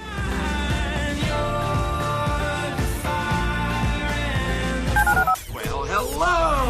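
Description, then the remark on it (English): A quick run of touch-tone phone dialing beeps sits inside a loud, dense musical bed of sustained tones, followed by a brief rising and falling electronic sweep. “Dial the phone.”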